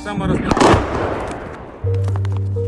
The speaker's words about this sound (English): We heard the boom of an incoming artillery.